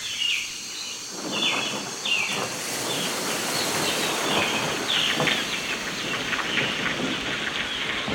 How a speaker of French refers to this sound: Quand un orage survient, au cours d'un bel après-midi d'été, toute la nature s'immobilise. Les oiseaux et les insectes attendent à l'abri la fin de l'averse.